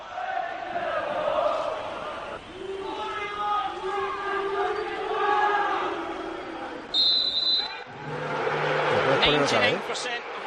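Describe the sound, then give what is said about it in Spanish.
A large crowd of visiting football fans at a UK match chants "Lizzie's in a box" in unison with a rhythmic, sing-song melody during a minute's silence for Queen Elizabeth II's death, then a brief high whistle-like tone cuts in and the crowd switches to loud, low, sustained booing. “Y luego hay abucheo, ¿eh?”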